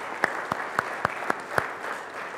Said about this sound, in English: And even though they're not here, I would invite us as the people of God to give them a round of applause as well.